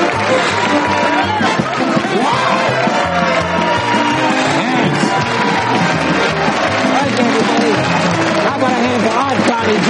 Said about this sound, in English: In the wings, Bullets applauds and grins. As Paley and Friedman clap too, audience members give Jackie a standing ovation.